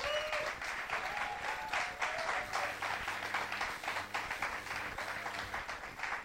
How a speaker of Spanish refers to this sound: Le damos un aplauso. Un aplauso.